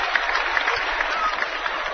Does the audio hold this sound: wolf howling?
no